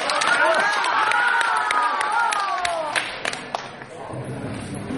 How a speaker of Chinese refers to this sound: 感谢大伙儿掌声鼓励，给您来换一场。